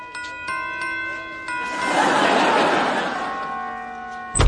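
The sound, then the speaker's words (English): A doorbell at an embassy where the ambassador lives rings with sustained, overlapping chime tones that hang in the air while a rushing swell of noise rises and fades, ending with a sharp clunk. “Ring the bell.”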